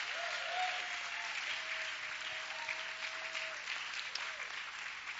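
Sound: audience applause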